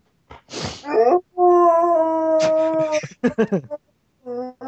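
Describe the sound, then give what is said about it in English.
A dog inside a house lets out a long, wavering howl, sustained and tonal, broken by short yips and whimpering barks before trailing off into brief final cries. “What's it like having a wolf inside of your house? Because that's pretty much what that is.”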